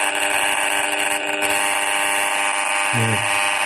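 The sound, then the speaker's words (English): An RF meter gives a loud, steady electronic buzz, harsh and rich in overtones, as a cordless phone held very close to its aerial is switched on, reading well over 20,000 microwatts; the buzz holds for several seconds with a brief low warble near the end. No one speaks. “So we're going to hold the cordless phone when it's off, and there's only a slight increase. Now we turn it on.”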